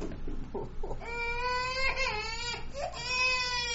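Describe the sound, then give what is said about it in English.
A young boy, said to have hit his head on the back of a chair, bursts into loud crying: a few short whimpers, then long, high, quavering wails that pause briefly and rise again, with no talking over them. “Oh, he hit his head on the back of that chair there.”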